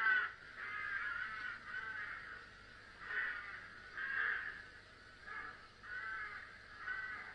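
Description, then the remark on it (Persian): A crow caws repeatedly, harsh raspy calls coming in short clusters about every second or so, steady in loudness, with no voices present. “بله، و به همین خاطرم مردم کلاغی را که با این خبرچینی و با گفتن آدرس خانه آهو سبب شد که شعر بره او را توتا توتا کنه، نامش ماندن زاغ خبرچین.”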